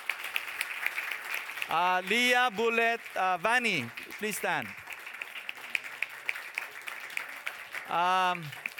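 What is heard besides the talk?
audience applause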